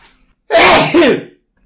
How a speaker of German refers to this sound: Oh, ich muss niesen.